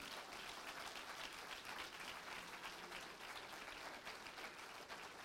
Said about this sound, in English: Let's give God a hand clap of praise.